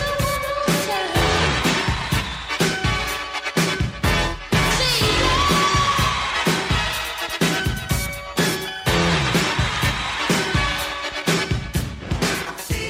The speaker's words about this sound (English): If you listen carefully, buried under the sound of a roaring crowd, you can hear